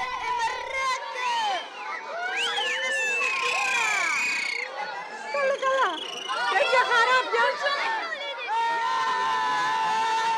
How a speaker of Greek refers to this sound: Πήραμε την Derb al-Hora, το δρόμο της ελευθερίας που ενώνει τις δύο κεντρικές αρτηρίες της ανδαλουσιανής γειτονιάς, την Talakbira και την Talas Gira. Πέσαμε σε σχολείο που σχολούσε.